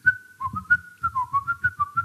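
A bright whistled melody, a jaunty tune, hops quickly between notes in a bouncy rhythm, with soft breathy puffs underneath each note and no talking.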